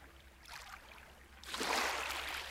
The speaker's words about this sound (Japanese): 跳ねる水音がまるで波の音に変わったりしていくの。そう、それはまるで小さな海のよう。海岸に打ち寄せる波が、あなたの感覚を少しずつ広い世界に誘っていくわ。